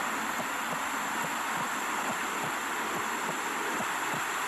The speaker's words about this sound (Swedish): Men låter det så där inuti livmodern? Ja, hela tiden. Det låter som vitt brus alltså. Eller ja, som... alltså det är typ brus, det är hjärta, mammans hjärta som dunkar, och så hör man ibland så här bubblor som far när mamman dricker kokis.